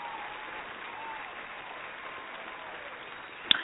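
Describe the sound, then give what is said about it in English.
An audience applauds in a steady, dense wash of clapping that holds at an even level for several seconds, somewhat muffled, with one sharp louder clap near the end. “Give a little round of applause.”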